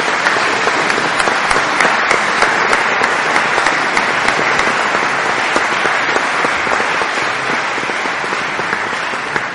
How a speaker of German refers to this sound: Vielleicht an dieser Stelle einen Applaus nochmal.